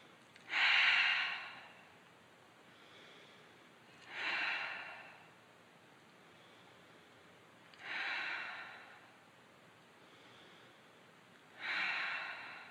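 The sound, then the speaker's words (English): Slow, deliberate breathing repeats four times at an even pace, each loud airy breath in through the nose followed by a softer, fainter exhale out through the mouth, with no talking. “Reconnect with water, in through your nose, out through your mouth.”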